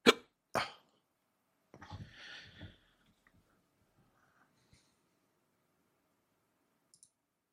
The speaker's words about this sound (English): These hiccups just won't go away.